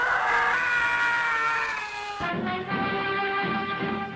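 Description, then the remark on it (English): A long, piercing scream, loud, held for about four seconds with a strained, wavering pitch that drops and roughens partway through: the Howie scream, a stock movie sound effect favored by sci-fi directors. “It wasn't until 30 years later that it was succeeded by the Howie scream, which became a particular favorite of sci-fi directors.”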